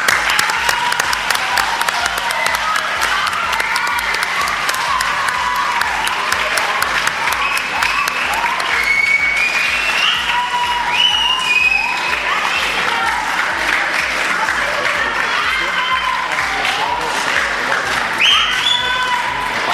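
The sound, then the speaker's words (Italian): A large audience bursts into sustained, steady applause for the local community and town, dense clapping lasting about twenty seconds with scattered cheers and voices mixed in. “Ecco, io farei un bel applauso a questa comunità, a questo paese che anche mi ha accolto, ma che veramente vi sta aiutando a crescere bene.”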